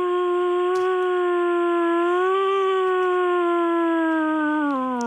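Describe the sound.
A man's voice imitates a wolf howl, one long sustained tone that rises slightly and then slowly falls, loud, lasting about five seconds with no other sounds.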